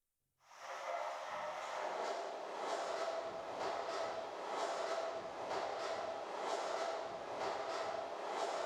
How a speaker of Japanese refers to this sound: 電車の音？